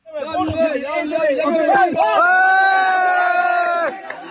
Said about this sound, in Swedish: Applåder och jubelrop när en kvinna vid liv sakta dras ut genom en springa i rasmassorna. Det är ett tidskrävande räddningsarbete som till stor del sker för hand.